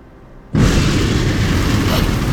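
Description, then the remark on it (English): A sudden, loud thunder clap from a lightning storm bursts in after a quiet moment, then rolls on as a dense, sustained rumble across the full range without fading, with no voices. “Stop the storm! Reset the sky! What was that? I reset the sky as you requested. What about the lightning?”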